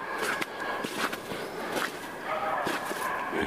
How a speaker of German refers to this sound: Das war irgendwie klar, wenn da auf der einen Seite ein Hundevieh rumbrüllt, dass dann auf der anderen Seite da das andere Bellvieh dann auch anfängt.